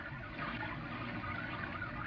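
Steady rain makes a continuous, even hiss with a low rumble underneath, unchanging for the whole stretch, with no voices.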